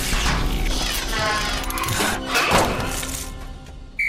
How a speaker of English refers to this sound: Smashing the checkerboard during a match is against the rules. The robot is disqualified.